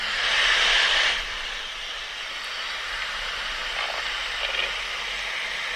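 A white pelican's breathy, rushing hiss, strongest for about a second at the start, then settling into a steadier, softer rasping noise with no voices.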